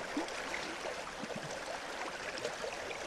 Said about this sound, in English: It's a marvellous noise, isn't it? The sound beautiful, of a river. Soothing.